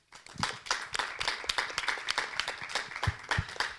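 A room full of people claps steadily, dense overlapping hand claps forming a sustained burst of applause that stays fairly even in loudness throughout.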